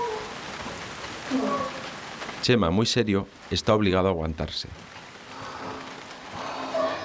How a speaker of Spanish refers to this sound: Todos los marineros junto a Chema y el tío Jaime tienen que protegerse de la lluvia pegados a la pared del camarote